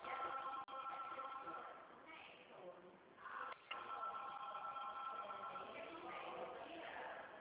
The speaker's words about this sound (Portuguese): Menina, o telefone aqui não para, você tá ouvindo? Eu estou escutando.